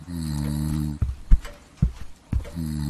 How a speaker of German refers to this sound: Hört sich das für dich auch nach Schnarchen an? Ja, schon. Meinst du, der Sessel schnarcht?